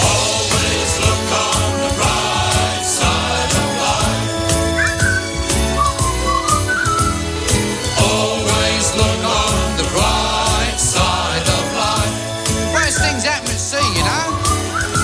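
A jaunty whistled melody from the ending of the film Life of Brian rides over a full, steady band accompaniment, the bright tune weaving in and out of the loud, continuous music throughout.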